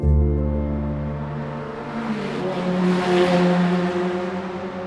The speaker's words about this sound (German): Der dröhnende Lärm der Formel-1-Autos im Süden von der Metropole Sao Paulo ist ohrenbetäubend. Seit 1940 ziehen die Piloten hier ihre Kreise auf dieser Piste in Interlagos.